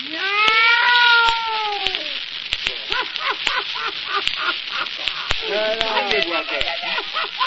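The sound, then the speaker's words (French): A cat meows twice, a long drawn-out cry followed a few seconds later by a shorter one, over a steady crackling, sizzling noise with scattered sharp clicks. “Ah non, puisque vous le ramassez, il fait miaou. C'est pas un lapin.”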